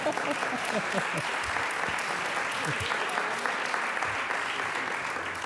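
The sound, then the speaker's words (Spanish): An audience breaks into steady applause, a dense wash of many hands clapping at an even level for about five seconds, with a few faint voices mixed in underneath. “Pueden aplaudir, ¿eh?”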